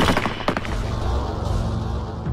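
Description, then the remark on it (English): A loud volley from the eight rifles of a firing squad crackles out in a quick ragged burst, then rolls away into a low, sustained rumbling echo with no voices. “The deafening explosion of the eight rifles was the last thing Ahmed heard.”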